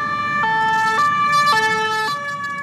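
An emergency vehicle siren blares in a street in the 2nd District of Paris, France, after a knife attack, alternating between two tones every half second or so over a low rumble of traffic.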